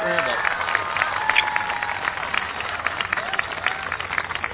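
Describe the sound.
An audience applauds a young Cub Scout guest steadily for several seconds, a dense wash of clapping with voices and cheers mixed through it, holding an even loudness throughout.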